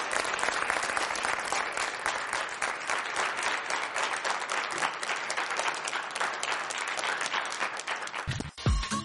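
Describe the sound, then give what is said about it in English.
A crowd applauds Scott Chandler with steady, dense clapping that holds at full volume for about eight and a half seconds before cutting off abruptly near the end. “Help me give him one more round of applause.”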